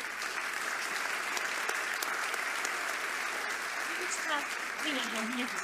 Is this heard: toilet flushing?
no